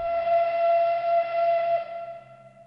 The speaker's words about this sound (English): When the Requiem ends in the multimedia concert Murray Sidlin created to commemorate Terezin, the mournful wail of a train whistle sounds.